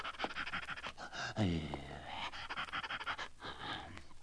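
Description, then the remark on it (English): An old hound lying in the road pants rapidly and heavily, quick breathy huffs running throughout, with a strained, wheezy gasp partway through. No one speaks. “And he had been walking for just a little while when he saw an old hound lying in the road, gasping and panting.”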